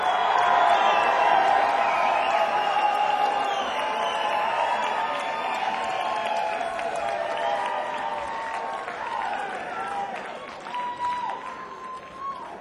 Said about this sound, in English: On the big round of applause on the drums